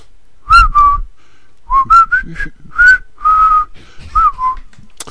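A person whistles a short tune up close, clear pitched notes in several phrases with brief pauses between them, some notes sliding, no talking.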